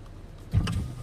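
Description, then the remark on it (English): A car's power window motor whirs as the glass starts sliding down in traffic, a steady low hum that starts abruptly halfway through and continues to the end. “Daddy, you just lower the window.”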